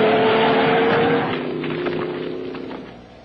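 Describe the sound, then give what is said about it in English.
A loud truck engine roars and strains on a wild ride, its pitch wavering as if driven hard, then eases and fades somewhat toward the end. No one speaks. “The scientist then finds himself experiencing the thoughts of a wild truck ride.”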